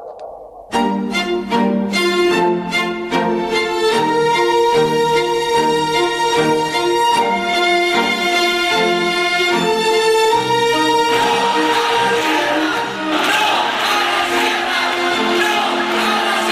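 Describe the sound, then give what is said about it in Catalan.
A crowd protesting against the Iraq war in city streets chants in unison with a steady, rhythmic beat, then breaks into louder, ragged shouting and cheering that fills the last few seconds. “Són els crits contra la guerra de l'Iraq que fa 18 anys van ressonar als carrers de moltes ciutats del món.”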